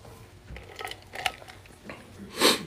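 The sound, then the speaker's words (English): Someone getting another drink of water: a few soft clinks and knocks, like a glass or bottle being handled, ending in one louder clatter. No one speaks. “This might be a little bit long-winded part here, so let me get another drink of water.”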